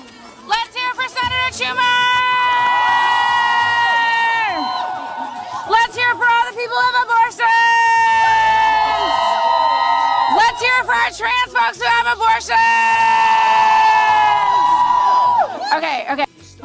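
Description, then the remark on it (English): A rally crowd cheers and whoops loudly in three swelling bursts right after Senator Chuck Schumer spoke, cheering for people who've had abortions, with long, high, sustained shouts riding over a dense wash of voices, briefly easing between each wave. “Lately, you've been seeing on social media the claim that nobody's cheering for abortions.”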